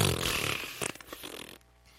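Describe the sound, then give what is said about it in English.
A balloon deflating with a loud, sputtering fart-like buzz for about a second and a half, rasping and fluttering before cutting off abruptly into quiet. “Farting balloon.”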